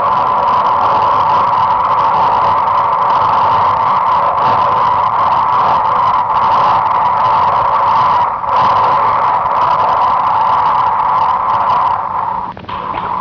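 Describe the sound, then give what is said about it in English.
Seismic recording of volcanic tremor, sped up 225 times to make felt frequencies audible, the tremor associated with molten lava within the volcano: a loud, steady droning hum centred on a sustained mid-pitched tone, rough and engine-like, continuing unbroken with no voices before dipping briefly near the end. “In the background you can hear volcanic tremor, which is usually of pure frequency and associated with molten lava within the volcano.”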